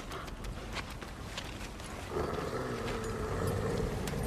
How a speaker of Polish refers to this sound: O, cześć wilczki.